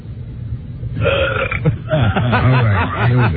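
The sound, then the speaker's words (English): A loud, long, drawn-out belch, starting after a brief quiet moment and croaking on with a wavering, throaty tone until the end. “I want to find the pig that's burping.”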